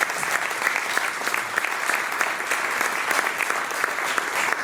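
Sustained audience applause, a dense steady wash of many hands clapping at an even, fairly loud level throughout, with no voices standing out.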